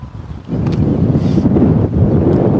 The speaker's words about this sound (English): So, yeah, now it's going to blow. The wind has come up out of the south in the last, last 5-10 minutes. And it's cold. It is cold. It's 40-something.